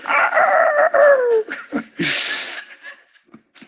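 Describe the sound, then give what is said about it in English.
A rooster crows once, loud: a drawn-out call that slides downward, followed by a short harsh, raspy burst and a few faint clucks. “That just makes you want a rooster crow and that stuff.”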